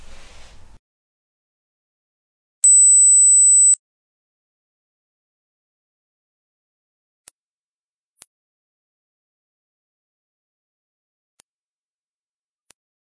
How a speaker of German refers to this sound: Ich lade dich jetzt zu einem Hörbeispiel ein. Vielleicht kennst du es schon. Ich spiele nämlich jetzt einen Klingelton ab für ein Smartphone.